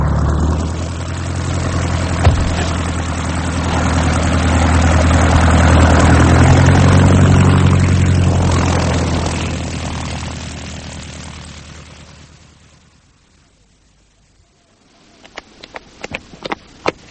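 A propeller plane's engine drones steadily, swelling louder with a low rumbling hum before fading away to near silence, followed by a few sharp clicks and taps.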